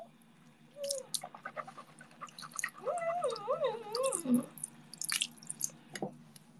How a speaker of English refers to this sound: Okay, I was using mouthwash.